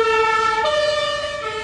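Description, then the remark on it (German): A loud two-tone ambulance siren wails, its steady harmonic tones shifting pitch midway as it passes on the Frankfurter Allee in Friedrichshain, with constant traffic rumbling underneath. “Nicht nur, wenn der Rettungswagen vorbeifährt, auch der normale Verkehr dröhnt ständig.”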